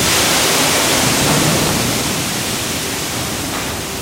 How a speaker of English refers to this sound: A few times a month, a locomotive jumps onto a track that loops around WGM's giant grain bins. The train lurches forward every few minutes, filling each car with a waterfall of corn.